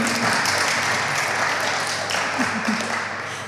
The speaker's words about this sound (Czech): Nebojte se zatleskat, to se hodí.